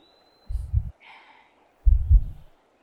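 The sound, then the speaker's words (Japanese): Two deep, muffled thumps of a heartbeat heard with an ear pressed to a chest, separated by a pause with a faint breathy rustle between them. “僕の心臓の音、聞こえる？”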